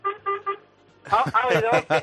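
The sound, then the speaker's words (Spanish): A garbage truck's horn honks three quick, evenly spaced toots, fairly loud, and then a person starts talking right after. “¿Has visto cómo nos tocan la bocina?”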